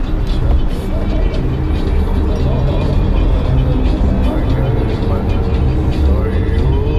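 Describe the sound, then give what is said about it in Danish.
Steady, loud low rumble inside a car driving in Kabul, Afghanistan, road and engine noise filling the cabin continuously, with muffled voices talking underneath. “Vi sidder igen i bilen”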